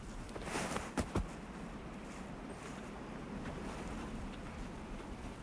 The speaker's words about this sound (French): c'est le vent dans les hautes feuilles et dans les épines de pin qui fait comme une espèce de bruit de vague ou de mer